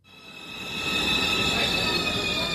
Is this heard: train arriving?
yes